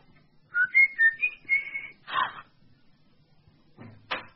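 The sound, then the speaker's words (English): Someone whistles a short tune of about five clear, sustained notes, loud, followed by a couple of brief knocking or banging noises. “By the way, who whistled as I was coming up the drive? Well, it went like this.”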